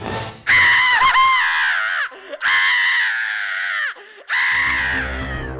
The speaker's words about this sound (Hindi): ताड़का की चीखों से जंगल कांप उठा, धरती हिल उठी जब ताड़का का भारी भरकम शरीर धरती पर गिरा।